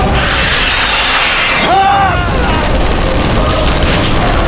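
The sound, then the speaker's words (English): Heavy shotgun blasts, fired at charging revenants, boom through a loud, dense wall of roaring noise, with a brief warbling whine partway through and sharp cracks crowding the final seconds. “Gibson's shotgun knocked several of the revenants off their feet with its sheer power, but those behind simply charged forward over the bodies of their brethren without hesitation,”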